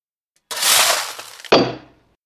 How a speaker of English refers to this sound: Suddenly, Stephen's spade hit something.